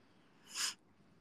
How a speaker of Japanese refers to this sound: あー、ごめんね、くしゃみしちゃった。